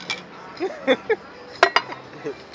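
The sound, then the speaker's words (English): Beer glasses clink together in a toast, two quick bright knocks, with a few murmured voices before and after. “Do we get a bear clink to start? Alright, we go start with the bear clink.”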